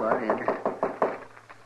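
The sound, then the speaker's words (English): A quick series of about six firm knocks on a wooden door, evenly spaced, with a couple of softer taps trailing off at the end. “Well, come on in. The door ain't locked.”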